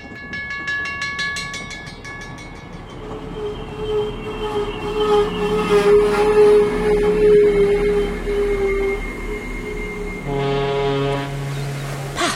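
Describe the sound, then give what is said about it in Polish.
A train rolls slowly onto a ferry bound for Sicily, steady rumble under a long high wheel squeal, then a deep ship's horn sounds near the end. No voices. “Wjeżdżamy na prom. Pociągiem? Incredibile.”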